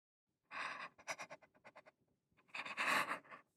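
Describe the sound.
A person imitates heavy, exaggerated panting up close: a long ragged gasp, a quick run of short breathy pants, then another drawn-out, strained gasp for air.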